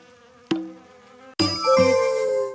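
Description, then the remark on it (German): A swarm of bees buzzes in two bursts: a short, thinner drone first, then a louder, fuller buzzing that swells and holds steady. No one speaks. “Ein Schwarm Bienen schwebt in seine Richtung.”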